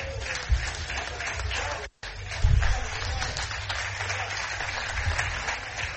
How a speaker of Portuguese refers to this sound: Jornalistas a aplaudirem José Peseiro, perdeu o jogo, ganhou o apoio da imprensa.